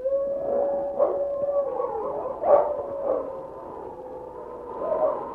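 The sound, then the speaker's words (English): Wolves howl at night in long, wavering tones that overlap and rise and fall, with a few sharper yips breaking through; the chorus carries steadily at moderate volume with no voices. “King heard the sharp howls of a wolf, and then a second wolf could be heard.”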